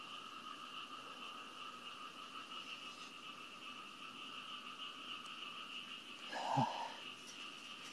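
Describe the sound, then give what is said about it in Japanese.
A dense chorus of frogs croaks steadily and continuously in the background, with one louder croak standing out near the end. No one speaks. “カエルうるせえな、確かに。”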